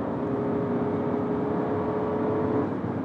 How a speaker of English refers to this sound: Cars making weird noises.